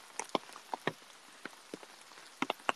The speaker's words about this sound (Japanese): いやマジでさ、これ止んでるかな、あと7時間後くらいにさ、この雨止んでる？